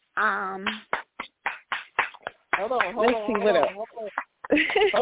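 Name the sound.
hand clapping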